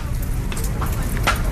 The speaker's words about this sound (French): Il pleut ce matin sur la base militaire de Quezon, à Manille, où une vingtaine de militaires des opérations civiles de l'armée s'affairent autour d'une table avec des bouteilles en plastique vide, de la colle et des morceaux de tôle.